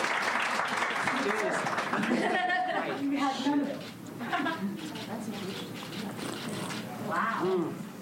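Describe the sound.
A short round of applause, dense clapping that fades after a couple of seconds while excited voices and chatter carry on over it.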